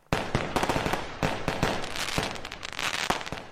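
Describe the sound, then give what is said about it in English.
Fireworks crackle and pop in a dense, rapid barrage of sharp bangs, loud, continuing without pause for a few seconds with no voices. “Leaving that film behind us, we need to talk fireworks.”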